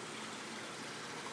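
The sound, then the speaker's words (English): A small waterfall on a pool steadily splashes and gushes into it, a continuous, even hiss of falling water with no pauses or voices. “That is our little waterfall on our pool.”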